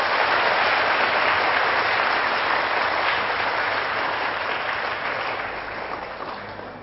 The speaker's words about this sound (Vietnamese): Nếu các bạn chấp nhận với lời khuyên của thầy là đến tham gia sinh hoạt chủ nhật tại các chùa, thì hãy cho thầy một tràng vỗ tay thật lớn để cảm kết.